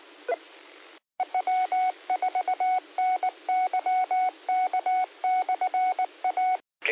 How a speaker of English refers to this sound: Phone call coming in.